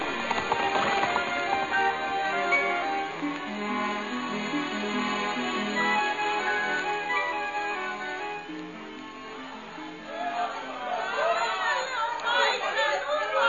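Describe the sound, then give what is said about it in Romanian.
Horses' hooves clip-clop steadily beneath a busy crowd murmur, the hoofbeats partly buried in the continuous chatter of many voices throughout. “Eu o iau înainte. Țineți-vă după mine. Hai căluților, vii!”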